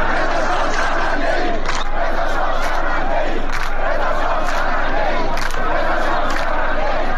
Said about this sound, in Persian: بر اساس ویدیوهای انتشار یافته در شبکه‌های اجتماعی، معترضان در شهرستان ایزه در شرق خوزستان شعار مرگ بر خامنه‌ای سر دادند. همچنین در این تظاهرات شعار رضا شاه شرمنده ایم نیز سر داده شد.